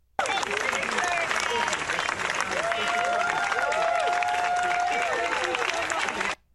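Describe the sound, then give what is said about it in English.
A large crowd of supporters claps and cheers steadily for several seconds at the CDC headquarters in Atlanta as staff members who resigned stage a walkout; dense applause with scattered whoops and shouted voices rising above it, loud, then cutting off abruptly. “On Thursday, a crowd of supporters showed up at the CDC to show solidarity with the staff members who resigned as they staged a walkout from their Atlanta headquarters.”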